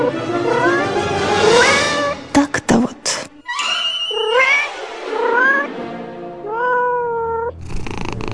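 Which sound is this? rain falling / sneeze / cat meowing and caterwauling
cat meowing and caterwauling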